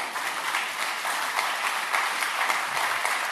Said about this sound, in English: I saw one person wanted to clap, and I'm going to let them clap. Go ahead.